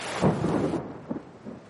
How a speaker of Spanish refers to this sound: En el exterior llueve con fuerza.